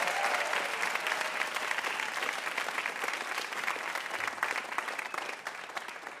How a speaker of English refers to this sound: one more round of applause for AJ Jacobs.